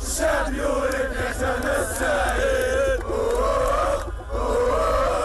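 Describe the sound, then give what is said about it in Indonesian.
A dense, steady roar of a street demonstration crowd in Algeria, people shouting, chanting and singing songs while waving Algerian flags, with long sustained car-horn tones running through the whole stretch, dipping briefly near the end. “Warga membunyikan klakson mobil, menyanyikan lagu-lagu dan mengibarkan bendera Aljazair.”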